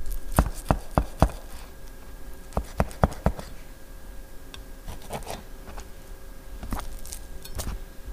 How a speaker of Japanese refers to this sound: 豚肉は脂身と赤身の間にある筋を何箇所か切り込みを入れて筋切りをしておきます。